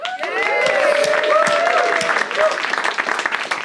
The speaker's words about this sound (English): I almost forgot to give the clapping signal.